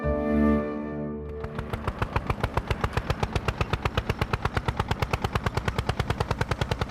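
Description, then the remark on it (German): A tractor engine chugs steadily in a fast, even rhythm of loud pulses, following a brief sustained musical tone at the start. No one speaks. “Mit dem Trecker.”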